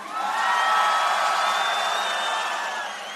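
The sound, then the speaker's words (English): A large festival crowd at Tomorrowland screams and cheers in a sustained, dense roar, loud and continuous for a few seconds, with shrill voices layered on top and no one speaking, as first-time attendees are asked to scream. “Okay, all virgins of Tomorrowland, let me hear you scream.”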